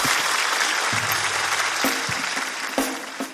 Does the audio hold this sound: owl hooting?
no